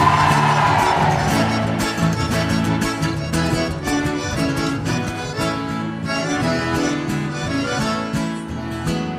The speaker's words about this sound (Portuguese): E o grito das mulheres, que manda neles